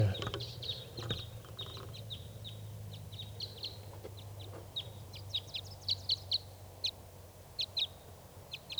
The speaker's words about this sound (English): One lone wild bird here. Wild bird. Male.